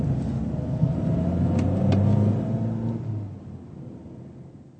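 A taxi's engine hums and rumbles steadily as it drives a passenger to the Hotel Europa, swelling slightly in the middle before fading off, with no voices present.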